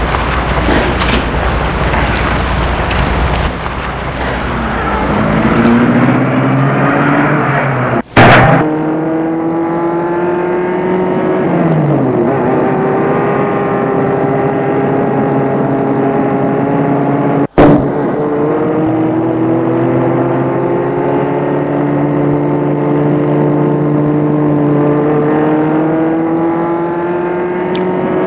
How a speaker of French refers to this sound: Et la voiture file dans les rues désertes et sombres.